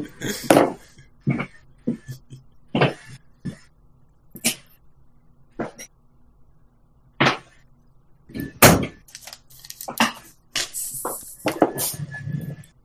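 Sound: door being closed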